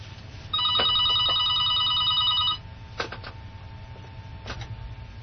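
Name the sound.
telephone ringing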